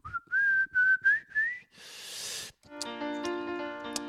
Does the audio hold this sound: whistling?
yes